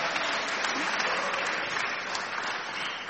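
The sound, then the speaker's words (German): Steady audience applause fills the whole stretch, a dense crackle of many hands clapping at an even, sustained level with no voices standing out. “Kriege ich da mal einen Applaus?”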